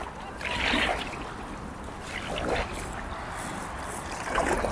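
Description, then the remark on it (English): A boat that is taking in water, paddled by one person: three splashy paddle strokes land about two seconds apart over a steady low wash of water and wind. “Okay, I'll just keep paddling on my own, shall I?”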